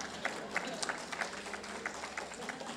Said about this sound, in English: Well, you can applause here.